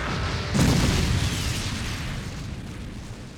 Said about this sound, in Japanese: 効果さん、ここはド派手な SE お願い。